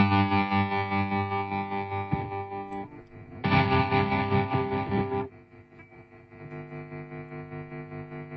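A steady, harsh distorted drone from a guitar amp simulator, with a signal sent into the guitar amp and the guitar level brought up on a mixer, swelling louder for a couple of seconds midway before dropping back to a quieter, buzzy hum. No voices are heard.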